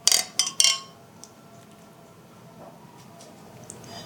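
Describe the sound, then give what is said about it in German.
Glasses clink together in a toast: three bright, quick chimes in fast succession at the start, fairly loud, followed by quiet with a few faint taps. “Also ein Prost, ja. Prost.”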